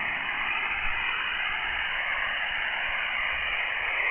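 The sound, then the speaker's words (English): Steady, hissing radio static fills the band at a constant level, with a station calling in just below the noise level, barely audible, and no clear voice emerging. “Somebody's right just below my noise level. I can just barely hear him.”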